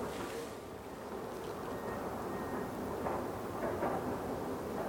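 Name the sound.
train passing by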